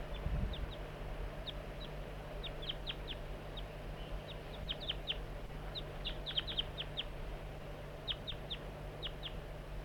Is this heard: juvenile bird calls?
yes